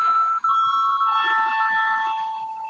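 parliament voting call bell

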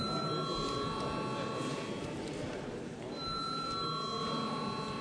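parliament chamber bell ringing

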